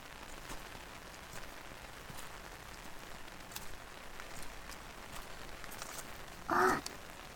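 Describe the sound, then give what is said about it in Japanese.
Steady rain falls in a Japanese garden at a hot spring, turning the air quite cold, a soft continuous hiss dotted with the tap of individual drops, with a brief tonal call rising above it near the end. “雨が降ってきただけあって結構冷えてきちゃったね。”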